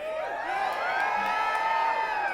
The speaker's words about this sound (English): It sounds like he could yell that louder.